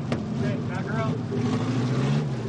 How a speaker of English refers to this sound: Malone backs out of the pits and heads in for a few practice laps. He's not ashamed of being the oldest rookie on the track. He even named his car after the year he was born. Number 45 has all the features of a NASCAR vehicle, except it's smaller.